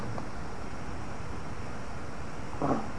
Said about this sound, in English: Good burp. There it is.